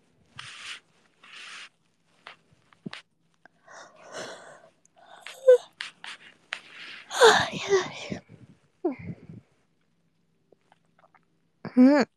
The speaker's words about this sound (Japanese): 今あくびが映った、そこのあなた、私と仲良くなりたいということですよ。